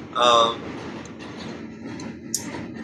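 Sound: train passing nearby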